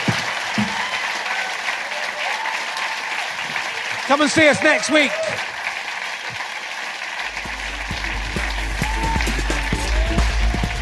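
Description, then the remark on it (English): Sustained audience applause for Rosie Holt fills the whole stretch, a dense, steady wash of clapping that carries on while a man speaks briefly over it. “And ladies and gentlemen, please give a massive round of applause to florist Rosie Holt.”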